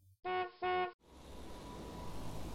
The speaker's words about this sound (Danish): Fårene er nu så langt væk fra vejen, at den gule bil kan køre videre. Geo kan se, at der står Sigurd på bilen. Bilen dytter to gange og kører videre.